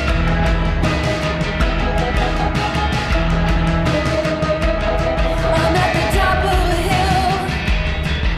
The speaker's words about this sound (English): Yeah, I love this record, this whole album. This is a little scream. There were moments on this record that was just, you felt like it was just going to disappear, and then there was something like that.